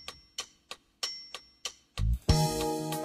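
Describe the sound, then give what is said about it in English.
A metronome ticks six times at a steady, brisk pulse, crisp, then a low thump and a sustained, bright musical tone take over at the end. “Metronome, in this case.”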